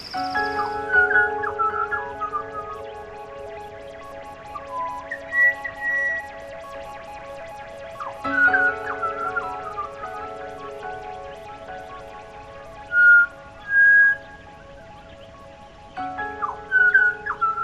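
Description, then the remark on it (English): Clear, flute-like whistled bird notes ring out in short phrases every few seconds, standing out over a steady tonal hum in the background. The song of a pied butcherbird in Toowoomba. “This is what I now know to be a pied butcher bird.”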